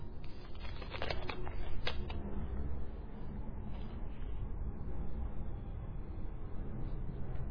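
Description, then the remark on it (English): Steady rustling and shuffling of paper sheets as someone sorts sheets of the same kind of paper, with a few sharper crisp flicks near the start, continuing softly throughout with no talking. “Hang on, so I've got a few here which I'm not sure if they belong together. So let me, they're on the same kind of paper, so.”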